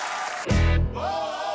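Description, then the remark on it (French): Audience applause for impersonator Laurent Gérard as he is introduced to sing a duet that evening: a dense, steady crackle of clapping throughout, briefly joined by a deep tonal swell before music starts under the clapping. “On l'applaudit bien fort, monsieur Laurent Gérard.”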